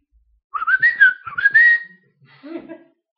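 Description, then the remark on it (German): A person whistles a bird call, imitating the one lead bird that always began the birds' chorus: a bright, wavering series of warbling notes that rise and dip in pitch for about a second and a half, then a brief softer, breathy trailing phrase. “Und dieser eine Vogel, der machte immer den Anfang.”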